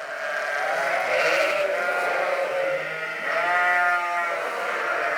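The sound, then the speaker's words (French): A herd of Aveyron-breed cows call over one another without pause, overlapping moos and moans blending into a loud, continuous chorus with a reverberant quality, indoors in a large shed at a 1000-cow dairy farm in the Baie de Somme, France. “Elles sont bizarres, tes vaches. Ouais, t'as vu. C'est les vaches aveyronnaises, c'est ça. Il y a une petite réverbe, elles étaient en intérieur, non?”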